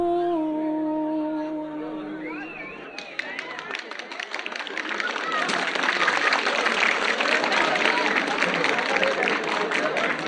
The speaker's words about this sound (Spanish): Se o público xa estaba entregado, tras o recitado daquela cantiga acabou por entregarse por completo e a partir de aí os aplausos subían cada vez máis de intensidade.